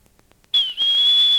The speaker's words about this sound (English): So the officer that was in the water with some of the passengers pulled out a whistle that looked just about like this and did what he was trained to do. He would blow the whistle and give the signal, "Return the boats!